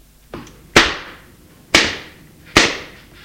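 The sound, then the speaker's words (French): Three loud, sharp slaps on skin as a man slaps a woman's face, evenly spaced about a second apart, each with a short ringing tail, preceded by a fainter smack. No one speaks. “Vous osez dire ça, et devant père, il la gifle.”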